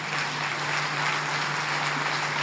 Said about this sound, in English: Listen. Listen, let's do this. Let's not clap. Let's not clap. That's very sweet, but let's not clap.